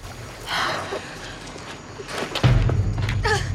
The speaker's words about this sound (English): The car crashes through a storm and into a lake, taking the zombies with it.